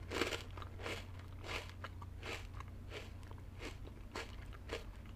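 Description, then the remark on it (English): Steady crunching as crisp lemon cookies are chewed, with about seven sharp crunches in an even rhythm and no talking. “God, they're so crunchy.”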